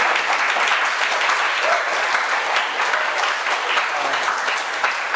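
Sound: sparse applause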